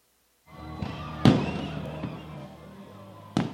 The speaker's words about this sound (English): Firework night here at Chancy Ballpark. You hear it in the background as we get ready for our post-game coverage.